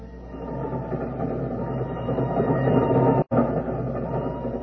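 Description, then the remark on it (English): A boat train for London rolls steadily along the rails, a continuous, fairly loud low rumble with clattering texture, broken only by a brief instant of silence near the end. “When he showed them to me, aboard a boat train for London.”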